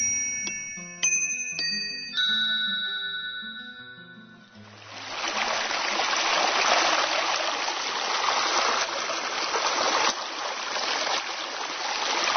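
A short tinkling chime melody opens, then gives way to a steady, fairly loud rush of the flowing Danube river that continues unbroken to the end, with no voices.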